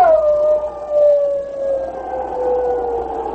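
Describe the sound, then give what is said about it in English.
A man imitates a wolf with a long, shrill wolf-like howl, held steadily for several seconds with a slowly falling pitch, loud, with no talking around it, while waving a burning pine branch over his head on a slope below a mining camp. “Then he set fire to the pine branch, waved it over his head, and at the same time gave voice to a shrill wolf howl.”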